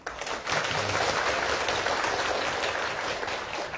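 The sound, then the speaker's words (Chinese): A crowd breaks into sustained applause, dense overlapping clapping that starts abruptly and holds steady and loud throughout, with no voices over it. “所以说呢，为了纪念这个日子，让我们一起用热烈的掌声感恩南丁格尔，也激励我们自己一起。”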